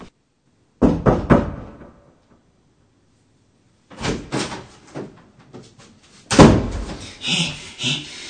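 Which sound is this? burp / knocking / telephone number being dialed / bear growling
knocking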